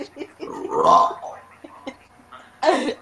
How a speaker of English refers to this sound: I burped.